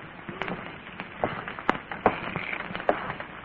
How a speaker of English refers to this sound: What's the matter with your shoes? They squeak. I know that, but why? Because they're in the ocean. Well, take them out of the ocean.